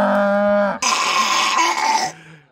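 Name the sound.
cow mooing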